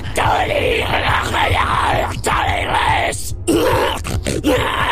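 A woman screams and groans loudly in long, wavering, strained cries, with only brief breaks between outbursts and no clear words, while thrashing and writhing with foam leaking from her mouth as staff members hold her.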